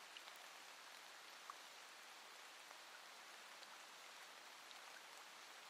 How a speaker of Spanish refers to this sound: Y tú te quedas allí, respiras, elevando tu rostro al cielo mientras inhalas, sintiendo la lluvia sobre tu cara, sintiendo el momento presente lleno de amor y gracia.